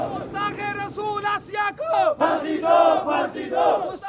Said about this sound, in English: Asya, the blasphemer, hang her, chants this small crowd of black-bearded men after Friday prayers in Rawalpindi.